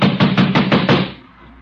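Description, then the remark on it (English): Six heavy, rapid blows pound against a door in quick succession as someone threatens to bust it down, loud, with a low booming thud to each hit before the sound stops. “I'm going to bust this door down.”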